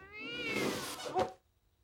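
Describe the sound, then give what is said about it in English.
A cat, Snowball, lets out a single long, drawn-out meow with a rising, wavering pitch, ending in a sharp squeaky burst before going quiet. No one speaks. “I'm sending the cat up with your lunches.”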